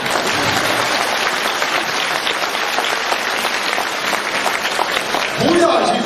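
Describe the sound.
An audience applauds steadily for about six seconds, a dense, even wash of clapping that stays loud throughout, with a voice briefly rising over it near the end.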